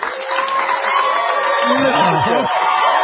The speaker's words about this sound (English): The construction workers are coming out, and they're all applauding you because they heard you were going to be on the show. I love them. There you go. And they've all got hard hats on, too, and their lunch pails.